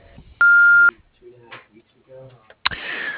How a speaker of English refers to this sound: Please leave your name and number after the beep, and we'll get back to you as soon as possible. Thanks.